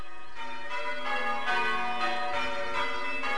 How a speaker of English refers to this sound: At nearby Stebbing, the bells rang out over the village. Although the ringers had to cope with losing one bell when the stay, the wooden shock absorber which stops it from swinging right over, broke.